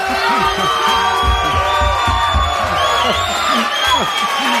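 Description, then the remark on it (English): A large crowd cheers and shouts continuously after a teacher is introduced, with whoops and raised voices layered into a dense, loud roar of applause-like noise throughout. “Oh, we got a crowd today.”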